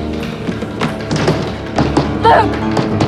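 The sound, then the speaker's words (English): Light, sharp ping pong ball taps sound at an irregular pace as patients play ping pong in a day room at a psychiatric institute, over a busy background of muffled voices and room noise, with a brief louder vocal sound near the end. “Patients in various states of sedation are playing ping pong and relaxing in a day room.”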